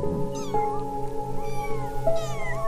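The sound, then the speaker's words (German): Several high, thin meows from a hungry litter of five newborn kittens (two red, one brown, one black-and-white, one all white) overlap in quick succession, rising and falling in pitch, clear over a steady low background hum, with no talking. “Und ein komplett weißes Kätzchen.”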